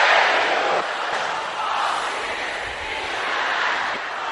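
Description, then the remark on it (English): A large group of women shouts together during a prayer in one loud, sustained roar that fills the space, holding steady for several seconds with no single voice standing out. “Is that the loudest sisters can shout?”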